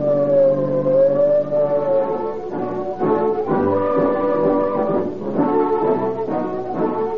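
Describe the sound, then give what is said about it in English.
A police car siren shrieks on its own, a loud, harmonically rich wail that holds a steady pitch and then dips and rises in repeated swells, with no voices over it. “Whenever you hear the shriek of a siren, when police cars whiz”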